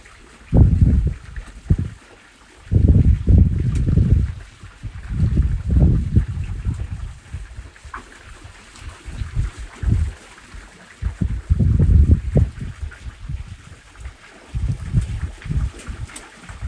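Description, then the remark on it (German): Water flows steadily outdoors while gusty wind buffets the microphone in repeated low, rumbling bursts, with no one talking. “Für die nächsten Momente lass dich einfach von dem Klang des Wassers neben mir, des Windes und meiner Stimme in die Entspannung begleiten.”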